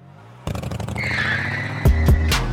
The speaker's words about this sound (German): Wie ist das Motorrad auf einmal war? Ich weiß nicht mehr, wie es zu dem Motorrad kam, ob es bei mir irgendwie wieder in Ableton rumflog.